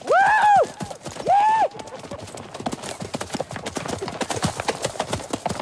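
Two loud, rising-and-falling cries ring out, then the Regulators' horses break into a fast gallop as they race along together, hooves clip-clopping in a dense, driving rhythm that stays steady to the end.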